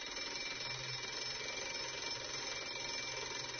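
An electric school bell rings continuously with a harsh, steady metallic clatter that holds at an even, fairly loud level for several seconds without pause. No voices are heard.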